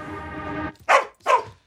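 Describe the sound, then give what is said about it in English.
A collie lets out two sharp, loud barks in quick succession, following a steady droning tone that fades out just before the first bark. “She takes the dog home.”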